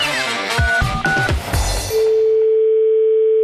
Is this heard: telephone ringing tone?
yes